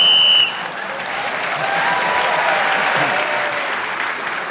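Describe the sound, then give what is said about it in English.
A short, shrill whistle blast sounds at the very start, ending a round of a panel game as Clement Freud is speaking, then an audience breaks into steady, sustained applause that continues to the end. “So, Clement got the extra point for speaking as the whistle went.”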